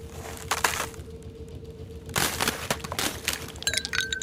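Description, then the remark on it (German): Several sharp cracking knocks as a frozen block of milk is knocked loose to get an ice cube for leftover coffee, coming in irregular bursts with a faint steady hum underneath and no talking. “Ja, kann ich mir dann wenigstens aus der Milch da hinten so einen Eiswürfel rauskloppen für den Kaffeerest hier?”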